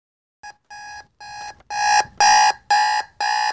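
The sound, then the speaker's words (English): An electronic alarm clock beeps in a steady repeating pattern, seven harmonic-rich tones that start softer and grow louder partway through, ringing alone with no voices. “his alarm begins its incessant chorus, rolling over to hit it with a bit more force than is strictly necessary, and causing the machine to crash to the floor with a disheartening cracking noise.”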